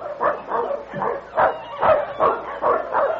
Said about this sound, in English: Say, listen. Do you hear that? A dog team.